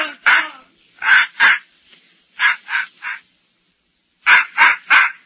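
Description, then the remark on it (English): A dog named Scuttlebutt barks loudly, about ten sharp barks delivered in quick bursts of two and three with short pauses between groups. No one speaks. “don't that dog ever go to sleep?”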